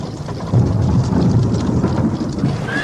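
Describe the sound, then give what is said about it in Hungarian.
A deep, sustained rumble of thunder from an approaching thunderstorm rolls beneath steady rain, building sharply after the first half second and holding loud throughout, with a dense hiss of falling drops across the top. “Mi ez a zaj? Zivatar közeled.”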